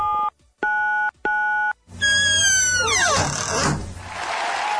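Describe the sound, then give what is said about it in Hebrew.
A radio contest's door-opening sound effect for winners who crack the four-digit code plays on its own: three loud, bright electronic tones in quick succession, then a sliding, descending whoosh that dissolves into a noisy rush. “אולי נשמיע להם צליל הפתיחה כדי שנזכיר להם מדי פעם איך זה אמור להישמע.”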